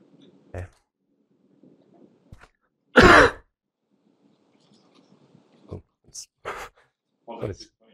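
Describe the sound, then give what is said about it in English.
A single loud, harsh cough bursts out, surrounded by quieter throat noises, short mouth sounds and brief vocal fragments. “Sorry, taking off the mask of cough is counterproductive.”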